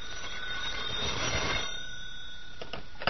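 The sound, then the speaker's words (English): A telephone rings with a sustained, shrill metallic tone over a rumbling background noise, lasting the whole few seconds without pause; no one speaks. “Oh, telephone. See, something's happening already.”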